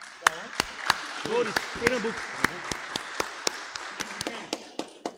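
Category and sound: crowd, round of applause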